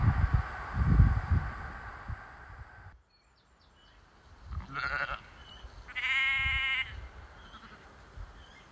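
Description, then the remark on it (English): Two wavering sheep bleats ring out in a field of sheep on a hillside walk near Burley Moor in Wharfedale, the second longer and louder, after rustling outdoor noise and a brief hush with faint birdsong. “As we walk through this field of sheep, we're nearly at the highest point of this walk today.”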